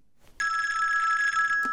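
A telephone rings with a steady, bright electronic trill lasting over a second, loud, then cuts off abruptly with a brief click.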